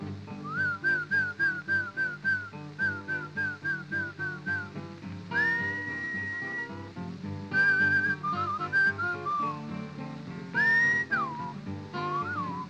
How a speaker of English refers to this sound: You didn't call him right. You must whistle when you want your horse to come to you. Something kind of like this.